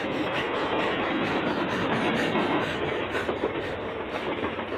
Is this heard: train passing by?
yes